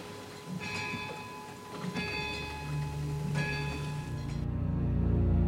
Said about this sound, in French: À minuit pile, l'horloge se met à sonner. Le bruit résonne et traverse les vieilles pierres.